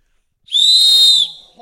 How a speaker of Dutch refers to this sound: Maar dit fluitje is in ieder geval terecht.